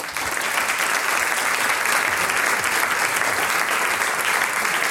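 Steady, dense applause from a crowd, a continuous wash of clapping that holds at an even, fairly loud level for about five seconds with no voices over it.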